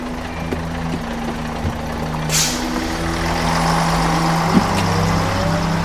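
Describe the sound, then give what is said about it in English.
A bus engine idles at a bus stop with a steady low rumble, broken by a short, sharp pneumatic hiss of the bus doors closing, then the engine drones on with no voices. “Get on this bus and sit down before I close these doors and leave you standing there with that dumb look on your face.”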